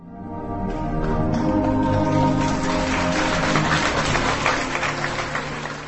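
A large audience gives long, sustained applause late on Thursday evening at the premiere of Václav Havel's play Abgang at the Archa Theatre in Prague: steady, continuous clapping, a dense, even wash that holds at full strength for several seconds without letting up.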